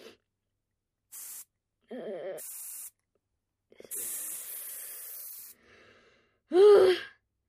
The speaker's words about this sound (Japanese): マスクをつけて。男の匂い消しのスプレーで。